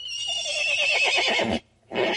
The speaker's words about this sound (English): So let's hear how different these noises are. And here's a horse.